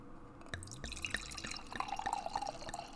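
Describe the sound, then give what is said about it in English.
Wine pours into glasses, a gurgling, splashing stream whose pitch rises as the glass fills, with light drips and clinks; no one speaks. “So we'll pour some in our glasses, then I'll give you a couple of facts about the business.”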